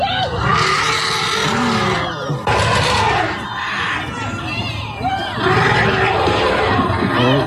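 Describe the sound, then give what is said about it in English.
A group of excited elephants in the San Diego Zoo elephant enclosure, after a man holding his son broke into the exhibit, calling over one another: loud, overlapping trumpets, squeals and rumbles in a continuous chaotic chorus with no pauses, swelling briefly in intensity a couple of times. “Do you want to hear what it sounds like when that happens? You want to see how happy the elephants are?”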